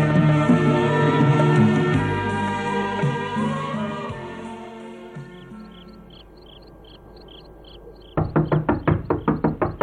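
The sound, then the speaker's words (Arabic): A run of about seven firm knocks on a wooden door early in the night, quick and evenly spaced, coming in near the end after a sustained musical drone fades out. “الذي يطرق الباب في أول هذا الليل؟”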